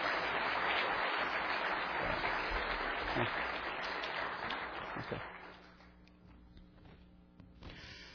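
An audience applauds with dense, steady clapping that fills the room for about five seconds, then thins out and fades, with a few scattered claps and faint murmurs at the end.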